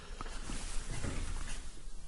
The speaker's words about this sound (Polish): Słyszycie? Tak. Ktoś wchodzi przez piwnicę. To musi być nasza siostra. Poznaje jej krok. O, słyszę wolne kroki. Wchodzi naprawdę po cichu.